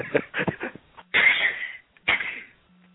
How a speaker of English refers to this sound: Okay. What was that? I don't know what the hell that was. That was me coughing. Sounded like a dingo getting hit by a car.